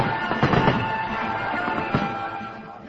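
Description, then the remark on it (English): A few muffled firework bangs burst at irregular moments over a steady, noisy outdoor ambience at the festive opening ceremony of Israel's 58th Independence Day in Jerusalem, as soldiers march in formation. “Soldiers marched in formation as fireworks lit up the sky.”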